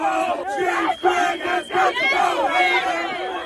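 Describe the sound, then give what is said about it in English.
A loud protest crowd chants and screams continuously, with an air horn blaring through the din; the noise dips only briefly a couple of times before surging again. Protesters on Belle Isle, Detroit, surround former Detroit Police Chief James Craig as he announces he is running for governor as a Republican. “No, not the air horn, not the chanting or the screaming.”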